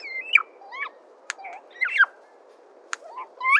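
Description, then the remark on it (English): A single bird sings short, broken-off phrases of rising and falling whistled notes with pauses between them, plus two sharp clicks, fairly clear over a faint background hiss; the bird sings only the start of its song, an incomplete song missing some of its components. “It's almost like he's got the start of the song, but he doesn't have all all the components in the song to make the correct song.”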